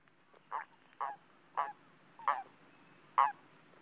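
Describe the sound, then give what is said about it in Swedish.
Toads call at a pond at night: five short, nasal croaks spaced about half a second apart, distinct against a quiet background with no voices. “Visst är det paddorna?”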